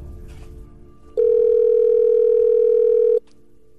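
A steady, loud telephone dial tone as a phone call is placed, holding at one pitch for about two seconds, then cutting off abruptly, with quiet low hum before and after.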